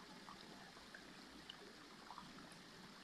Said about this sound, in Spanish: Si te fijas, hay una música de fondo, que es expresada por el sonido del agua cayendo por la cascada. Está presente durante nuestra visita al Belén, pero si estamos hablando, no podemos reconocerlo.